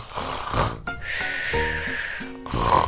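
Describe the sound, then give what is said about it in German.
A person imitates snoring with their voice: several loud, rough, rattling snorts mixed with breathy hissing, with no other talking. “Ja, ich kenne jemanden, der schnarcht in der Nacht oder auch manchmal bei seinem Mittagsschlaf. Und das klingt ungefähr so.”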